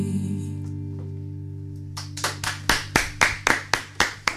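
A lingering musical tone fades out, then steady rhythmic handclapping starts, about ten sharp claps in an even beat, a small group applauding in time in the studio.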